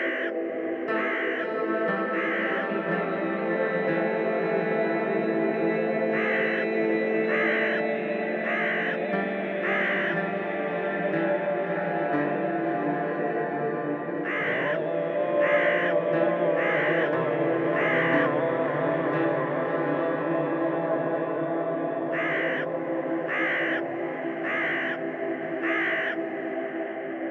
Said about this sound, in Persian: پیچیده در سکوت صدای کلاغ‌ها، در گوش کوچه پنجره گوش اتاق‌ها.